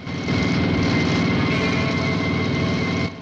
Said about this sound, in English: convoy of motorcycles and Allies' trucks approach a checkpoint by a bridge. Craig and Harker sit, stony-faced, as they pass a couple of tanks, with German troops manning machine guns. The checkpoint barrier is lifted, and the motorbikes ride through.